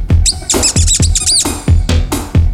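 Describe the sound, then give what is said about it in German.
A rubber duck squeaks loudly about six times in a quick, uneven series, each high, wavering squeal starting with a soft thud as the toy is squeezed. No voices. “Er rollt ganz zu, auf das Gummi quietschen muss es.”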